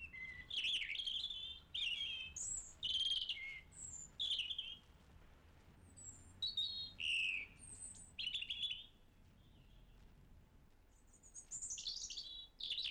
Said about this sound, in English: The robin has become associated in our minds with Christmas. It's a pleasant, colourful little bird at that time of the year, and it's got a sweet little song as well.